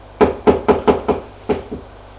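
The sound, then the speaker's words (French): Seven solid knocks by a guard on a door: a steady run of five, a short pause, then two more. Each rap is sharp and resonant, with no voices. “Le garde frappe à la porte”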